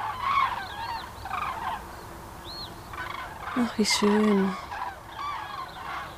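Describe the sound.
A flock of geese flying over in a huge V formation in autumn honks in a steady stream of overlapping, nasal calls, and a person murmurs briefly partway through.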